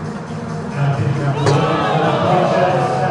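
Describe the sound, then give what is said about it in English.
A baseball crowd's steady roar of voices and babble on a Thirsty Thursday, reacting as the Loons take a 3-1 lead in the top of the third inning. The roar swells louder after the first second and stays loud, with a brief sharp sound in the middle of the noise. “Well, it's a thirsty Thursday, if you couldn't tell from the crowd reaction.”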